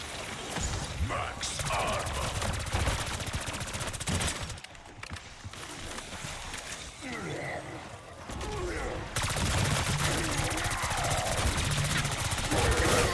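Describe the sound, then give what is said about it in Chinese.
Loud bursts of rapid gunfire rattle almost continuously, easing into a quieter stretch midway before the dense volleys return, with mechanical clatter and faint voices mixed underneath; the bullets explode. “子彈嗰下會有爆炸，喂唔係，我知點解啦。”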